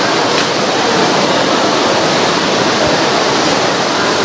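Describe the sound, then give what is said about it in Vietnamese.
A dense, steady roar of heavy rain fills the whole stretch, a loud unbroken hiss with no pauses and no voices. “Chị em ngồi vào chỗ này, trong đi vào trong này đi, khỏi bị ướt, khỏi mưa áo mưa mới gì lộn xộn.”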